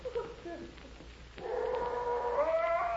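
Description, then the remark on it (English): A dog howls in a long, drawn-out, wavering cry that swells in partway through and holds steady and fairly loud to the end, with softer whining tones before it and no talking. “I've got to get rid of that blasted dog.”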